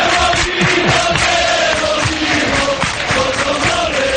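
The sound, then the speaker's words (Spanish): A large crowd of Real Betis football fans chants loudly and continuously at the Benito Villamarín stadium, many voices blending into a dense, sustained roar with rising and falling sung phrases throughout. “Lo que le queda grabado siempre es cuando todo el mundo habla de los cánticos, no de ese estadio por bonito favor.”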